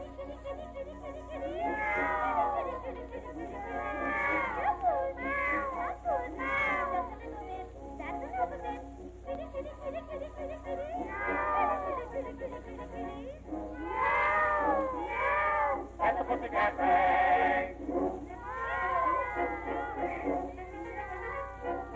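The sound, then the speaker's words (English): A woman's voice imitates cats in a string of drawn-out, wavering meows and yowls, rising and falling in bursts with short pauses between, fairly loud. “For you can hear her calling cats at any time of night.”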